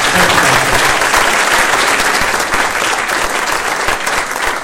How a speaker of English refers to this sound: Yep, a round of applause for Dr.